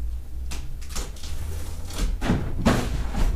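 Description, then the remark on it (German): A mat topples over with a soft, muffled thud, preceded by several brief knocks and creaks, with the heaviest impact near the end against a low background rumble. “Achtung, vielleicht haben wir ein Geräusch, wenn die Matte fällt.”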